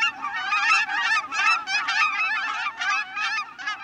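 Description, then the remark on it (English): A flock of cackling geese honks continuously, high-pitched overlapping calls tumbling over one another in a busy, chattering chorus that stays loud throughout. “Cackling geese may look a lot like Canada geese, but their slighter build and shorter beaks give them away as a distinct species.”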